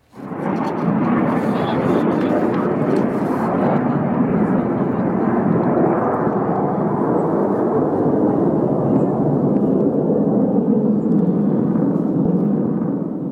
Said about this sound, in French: ce bruit qui rythme désormais le quotidien des Alépins, celui des avions, annonçant la mort tombée du ciel.